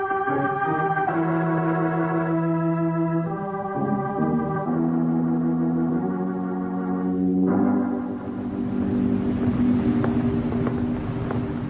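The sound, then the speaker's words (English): A car engine runs steadily in a street with a droning, humming tone that shifts pitch a few times, then turns rougher and noisier near the end. It stays fairly loud throughout, with no voices. “The only car in the street.”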